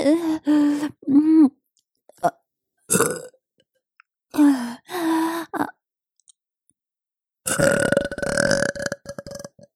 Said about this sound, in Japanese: ゲップセックス感じちゃう。ゲップ好き。